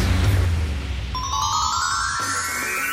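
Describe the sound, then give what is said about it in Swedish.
An electronic telephone ring tone, a call coming in to the radio show Karlavagnen, rises out of a low rumbling background, a steady synthetic chime with bright harmonics that climbs gradually in pitch and holds fairly loud to the end, with no voices. “Det ringer hos Karlavagnen och vi säger hej till”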